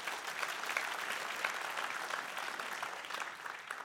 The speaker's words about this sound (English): And that for me, you want to clap for that? We can clap for that. Amen.